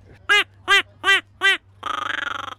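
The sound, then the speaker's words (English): A duck call blown: four loud, evenly spaced quacks, then a quick burst of rapid, buzzy quacking chatter, with no voices. “And a duck caller.”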